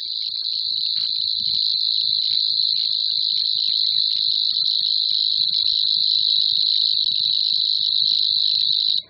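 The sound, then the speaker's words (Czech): A Locustella warbler's reeling song: a continuous, high-pitched, insect-like trill that runs unbroken and fairly loud for the whole stretch, with faint low rumbling in the background. “letech teprve učili rozpoznávat zpěv všech tří druhů. Cvrčilky zelené, říční a slavíkové.”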